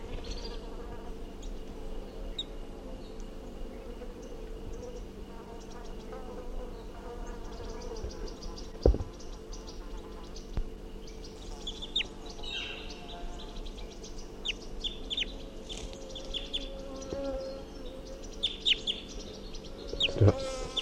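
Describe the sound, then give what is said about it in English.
Short, sharp alarm calls of a wild crossbill come in scattered bursts, mostly in the second half, over a constant droning buzz of insects. No one speaks. “So recording the wild bird, 8:47, and it's giving alarm calls.”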